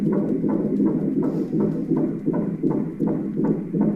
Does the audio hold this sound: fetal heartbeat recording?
yes